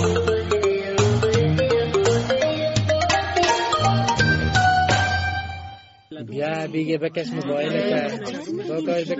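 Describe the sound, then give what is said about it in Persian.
A loud, melodic mobile phone ringtone plays for about six seconds, stepping through bright electronic notes, then cuts off as a person starts talking. “بکش موبایل”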